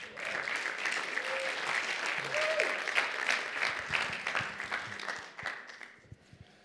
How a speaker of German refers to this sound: Genau, grosser Applaus für dich,